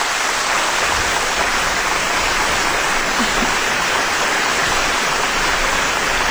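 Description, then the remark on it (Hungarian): Dense, steady applause from a crowd, a continuous wash of clapping that stays at an even loudness throughout, with no voices breaking through. “Igen, és taps van.”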